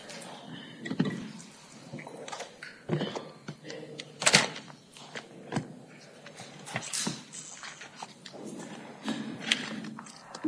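A door being shut in a courtroom amid scattered clunks and shuffling, with one sharper, louder knock partway through; faint background voices murmur.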